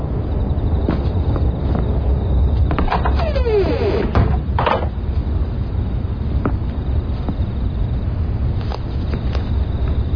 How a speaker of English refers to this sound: Shut the door.